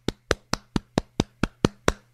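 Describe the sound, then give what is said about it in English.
A single pair of hands gives a slow round of applause for Patrick Peterson: nine crisp, evenly spaced claps in a steady rhythm, with no talking and a faint low hum underneath. “Patrick Peterson, round of applause.”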